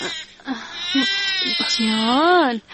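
A baby cries in a series of loud, strained wails, with short breaks between bursts and a long rising-and-falling howl at the end.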